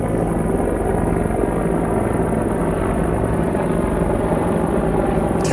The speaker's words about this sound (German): Die Hubschrauber kommen! Verwundete treffen ein! Ich fühle mich eher wie im Krieg. Mein Gott, es ist wie in Vietnam. Auch wirklich zwei riesigen Riesenbrocken von Hubschrauber, die da gerade über mir wegfliegen. Ziemlich tief.